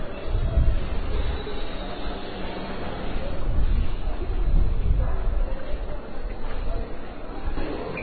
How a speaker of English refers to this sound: Train's here.